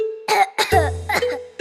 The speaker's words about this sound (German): Das sind die Regenwürmer. Wir haben Husten. Hörst du die Regenwürmer husten, wenn sie durchs dunkle Erdreich ziehen?